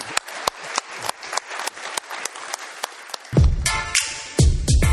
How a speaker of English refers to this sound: Let's have a round of applause for David. Yep, thank you.